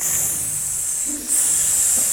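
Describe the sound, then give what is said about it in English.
Several voices make a steady, breathy hiss to imitate ocean waves, with a brief dip in the middle before the shushing swells back up, loud and continuous. “Yeah, okay, so we've got some waves.”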